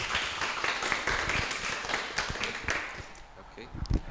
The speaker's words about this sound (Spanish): Un aplauso, por favor.